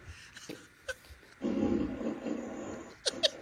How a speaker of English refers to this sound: Try asking me for a gassy fart. Alexa, fart.